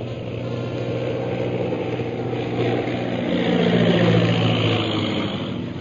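A heavy propeller bomber plane flies low overhead, heading straight at the onlookers; its low, throbbing engine drone swells louder around the fourth second before easing slightly. No voices are heard.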